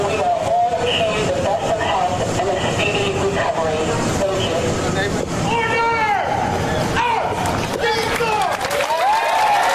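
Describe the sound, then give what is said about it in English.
A large crowd cheers and applauds loudly and without a break as Captain Duff leaves the hospital, a dense roar of clapping and voices picked up by microphones, with shouts and whistle-like cries rising and falling over it. “Crowd, that's just what the mics are picking up.”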